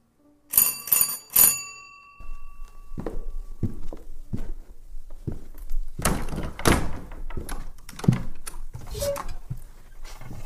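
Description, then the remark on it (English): A doorbell rings in three quick, bright strikes with a lingering metallic tone, followed by the door being opened by an elderly manservant and soft shuffling movement. “A grave-looking, elderly manservant answered the bell, and it became evident the Canadian visitor had arrived too soon.”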